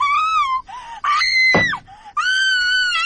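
girl screaming

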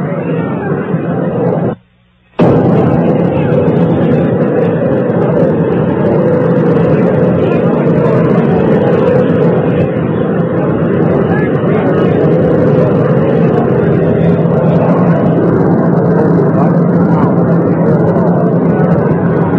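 army helicopter landing

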